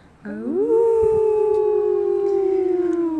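A wolf howl from several wolves in the distance rises quickly, then holds a long, wavering tone that slowly slides downward for about three seconds, heard clearly over a soft, steady background hiss.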